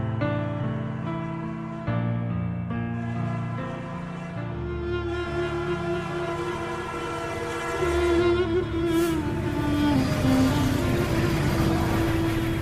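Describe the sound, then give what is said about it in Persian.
A train rumbles past as its horn sounds in long, sustained blasts, the noise swelling louder toward the end. No one speaks. “دو کوه آخرین ایستگاه قطار بود.”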